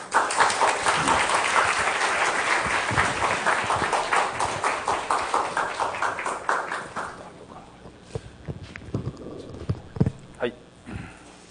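A burst of applause from a church audience welcoming the preacher, dense and steady for about seven seconds, then thinning into a few scattered claps that fade out.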